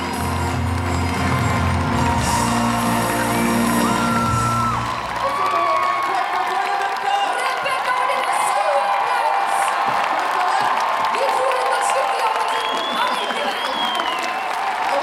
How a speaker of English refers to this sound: So let's listen to the sound of … victory, the fanfare, the 10,000 screaming Norwegians.